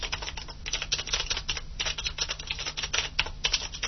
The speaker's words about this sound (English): Alright, and now, roughly the same distance, here is the keyboard on the Braillite Millennium.